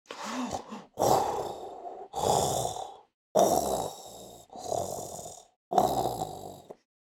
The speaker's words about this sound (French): Et en tendant encore plus l'oreille, comme un bruit de respiration.